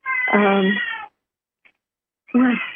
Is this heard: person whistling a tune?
no